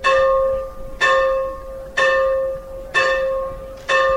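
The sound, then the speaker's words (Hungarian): The bell of the Church of Belonging at the former village of Bözödújfalu tolls five times at a steady pace of about one strike per second, calling the village's scattered former residents to a remembrance; each ringing tone bright and resonant, fading slowly before the next strike, with no voices. “Idén az összetartozás templomának harangja hívta az egykori bözödújfalu szétszórodott lakóit emlékezni.”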